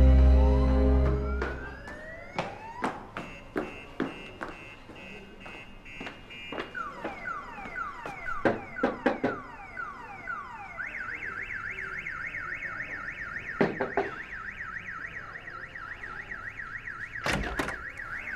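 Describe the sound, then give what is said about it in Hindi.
A car alarm goes off, cycling through shrill electronic patterns: rising sweeps, rapid chirps and a fast warbling tone that repeats steadily, with sharp clicks and thumps scattered throughout. No one speaks. “वो गाड़ी का सेफ्टी अलार्म बज रहा है।”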